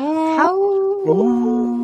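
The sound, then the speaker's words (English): Several human voices howl together in imitation of wolves, long sustained tones that slide up and down in pitch, loud, overlapping like a rough chorus. “Howl. Sound like a choir. We harmonized.”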